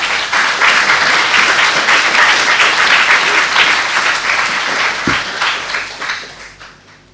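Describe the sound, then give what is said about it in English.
A crowd applauds steadily as a speaker is about to appear on stage, dense, loud clapping that holds for several seconds before tapering off toward the end. No one speaks over it. “Well, we don't have any wings here, but he is about to appear on stage, so let's give him a big clap now.”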